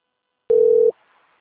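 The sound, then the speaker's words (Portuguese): A single steady, mid-pitched telephone line tone sounds loudly for under half a second, then cuts off into a faint hiss. No one speaks. “Silêncio, só um telefone.”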